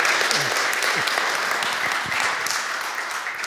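A crowd applauds steadily, a dense wash of many hands clapping at once, loud and sustained throughout with a few faint voices underneath.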